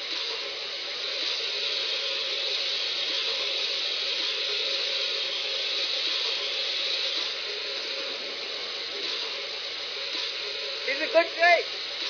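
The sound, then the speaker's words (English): A steam engine injector, just turned on, hisses steadily and loudly, a continuous rushing roar of steam filling the whole stretch, with a brief faint voice-like sound near the end. “Turn on the injector.”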